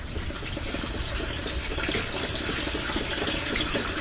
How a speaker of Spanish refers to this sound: Un momento de silencio, a ver si podemos captar el ruido de una pequeña cascada de agua que tenemos aquí cerca. Vamos a introducir el magnetofón, a ver si ustedes lo pueden captar también.